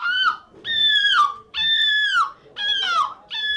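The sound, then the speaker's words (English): A person's voice imitates a seagull, giving about five loud, screechy, nasal squawks in quick succession, each sliding downward in pitch, with short breaks between them. “But that's pretty good for people imitating a seagull.”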